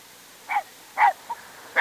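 An all-black sheepdog named Jet barks three times at uneven intervals, with a short soft yip in between. The barks are moderately loud, and no one speaks.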